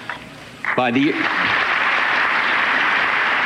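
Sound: crowd applause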